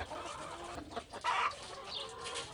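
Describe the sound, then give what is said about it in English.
Several chickens cluck and squawk in a busy, overlapping chorus, with one louder burst of clucking standing out midway through. “They're fucking chickens.”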